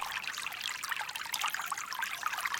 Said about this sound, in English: Start by imagining the soft trickle of water coming down to the very top of your head. Water trickles and touches the very crown of your skull, slowly penetrating through to the brain.